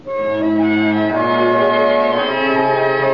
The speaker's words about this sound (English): Three chimes mean good times on NBC.